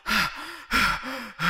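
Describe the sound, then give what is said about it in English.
A voice exaggeratedly imitates loud, heavy breathing, rhythmic rasping gasps alternating with groaning, voiced exhales, repeating about twice in quick succession. “Would you care not to breathe quite so loud”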